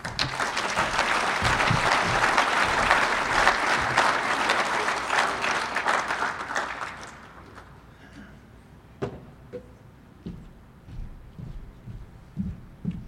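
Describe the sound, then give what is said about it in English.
An audience claps loudly in a dense, steady burst for several seconds for a man who has just spoken, then the applause tapers off, leaving a few scattered claps and faint background noise. “Let's give him another round of applause.”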